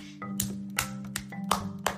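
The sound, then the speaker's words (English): A crowd clapping for Amelia Bedelia, following the mayor, in a slow, steady rhythm, about five or six sharp claps ringing out over a soft, sustained musical tone underneath. “He began to clap for Amelia Bedelia. Then the whole crowd joined in.”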